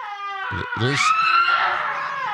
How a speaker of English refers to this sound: There's a person screaming. And a guy screaming.